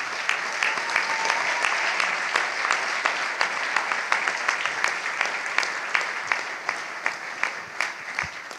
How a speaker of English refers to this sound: Now we can applaud.